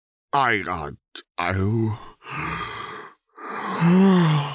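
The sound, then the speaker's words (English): A drawn-out vocal yawn, fairly loud: a rising, groaning voiced stretch, a short catch, then breathy exhales trailing into a final moaning hum, with no talking. “Motherfucker, you're lying to me. You're yawning.”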